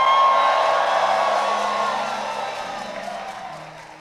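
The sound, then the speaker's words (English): A large audience shouts and cheers together during a sermon in a loud, sustained roar that slowly fades over a few seconds, with scattered whoops and yells rising above the mass of voices. “As we are shouting, let the power of death be broken.”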